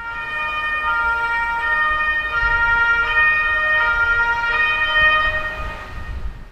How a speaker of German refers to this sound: Plötzlich hörten sie hinter sich noch eine Polizeisirene.